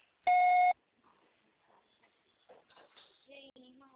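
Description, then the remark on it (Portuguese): A single loud, steady electronic voicemail beep lasting about half a second, signaling to record a message, followed by quiet, indistinct talking. “Grave seu recado agora.”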